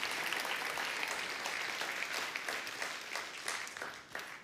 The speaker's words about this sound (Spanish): Damos una ofrenda de palmas todos juntos.